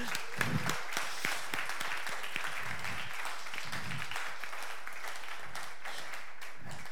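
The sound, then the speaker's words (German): An audience applauds steadily for several seconds, a dense patter of many hands clapping at even volume, with a few low murmurs from the crowd underneath, for a couple being blessed after 35 years of marriage. “Ihr dürft ruhig mal klatschen.”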